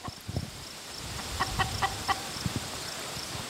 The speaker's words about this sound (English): Now, these ladies, they're two-legged and they have these red combs. They're chickens. They're coming towards us.